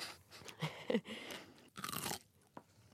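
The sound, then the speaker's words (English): Loud crunching bites of a pickle followed by wet chewing, with bursts of crisp crackle around one and two seconds and no talking. “Oh, that's such a classic crunch.”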